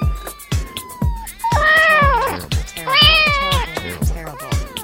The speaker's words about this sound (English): a close look reveals Mittens, the cat, stuck in a tree about 70 feet up